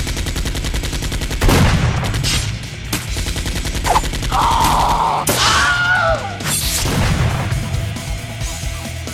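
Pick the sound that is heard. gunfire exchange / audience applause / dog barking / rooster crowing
gunfire exchange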